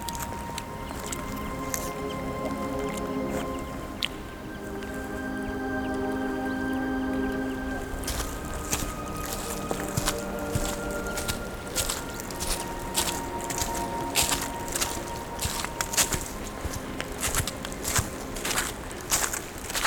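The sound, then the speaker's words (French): Footsteps of hikers heading back down crunch and scuff along a path at a steady walking pace, somewhat distant, with faint indistinct voices and a low tonal hum in the first half. “Mais il est temps de redescendre, tout comme ces randonneurs que vous entendez au loin.”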